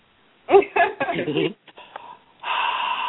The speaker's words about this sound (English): breathing on the phone like that